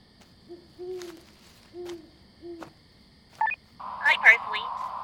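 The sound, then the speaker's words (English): An owl hoots three times at a steady pace, soft, over a faint high whine; a burst of brighter electronic-sounding chirps follows at the end. “Out here except some owls.”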